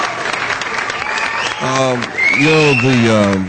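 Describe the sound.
Applause sound effect played for a caller on a call-in show. A steady wash of clapping is soon joined by loud cheering and whooping voices that rise over it toward the end.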